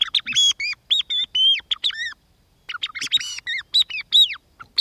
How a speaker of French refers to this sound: Là, on est dans la forêt de la Sarcena, sur le massif du Dufre. Et sur les épicéas qu'on voit là-bas au bout, tout en haut perché, il y a la grive musicienne. Ça ne s'invente pas.